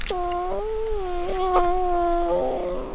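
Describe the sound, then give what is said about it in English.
An orphaned brown bear cub of about 5 pounds, sitting on a man's chest while bottle-fed goat's milk in a tank in Sitka, Alaska, lets out a long whining cry, a steady nasal wail lasting a few seconds with small pitch wavers and a rougher break near the end. No one speaks. “is feeding a new cub sitting on his chest with a baby bottle full of goat's milk.”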